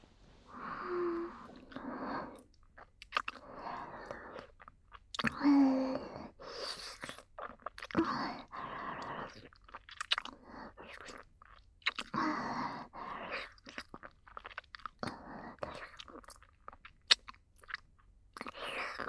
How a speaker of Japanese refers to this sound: すいません。手が滑って両耳舐めの音流しちゃいました。